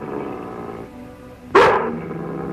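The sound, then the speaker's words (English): A female dog gives a low, steady growl, then lets out a single sharp, loud bark before settling back into a rumbling growl. No one speaks. “She doesn't understand. You hold her”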